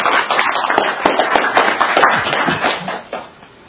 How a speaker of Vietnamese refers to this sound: Chúng ta cho một tràng pháo tay để hôm nay.